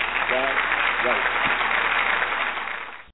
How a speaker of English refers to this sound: Hey, there's the applause. That's what I'm talking about.